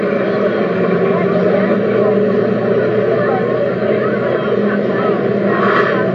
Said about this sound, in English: Oh, the bus is revving up now, as you probably heard. Oh, is it moving?